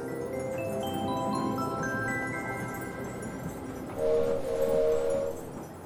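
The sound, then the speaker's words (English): A cartoonish train sound effect: rising and falling whistle tones over a steady rumbling background, then a brighter, louder two-note whistle toot near the end. No talking. “All aboard! Elmo's train is leaving the station. Chugga, chugga, chugga, chugga. Choo, choo.”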